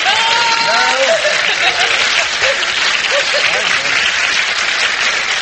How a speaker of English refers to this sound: I thank our audience for that spontaneous round of applause